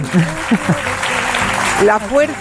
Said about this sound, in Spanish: Bueno, se merece un aplauso.